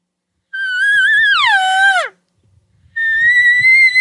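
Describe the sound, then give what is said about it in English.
A drawn-out, whiny elk cow estrus call, an up-and-down wavy cow call used in elk calling, rises, wavers up and down, then drops sharply in pitch before breaking off; after a short pause a second steady, high whine follows, loud and alone. “I use these real whiny, drawn out up and down cow calls versus like the just estrus cry”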